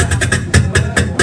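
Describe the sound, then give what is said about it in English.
Closed hi-hats imitated with the mouth, a quick run of about seven short, crisp hissing ticks in an uneven rhythm, each clipped off sharply, with a low voiced hum underneath. “Then I have my hi-hats, and hi-hats, when they're closed, sound like this.”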